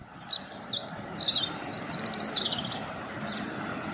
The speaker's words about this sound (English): Unlike many other wild animals, birds are able to live alongside humans, even in big cities.